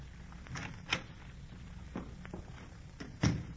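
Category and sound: household object, door opening and closing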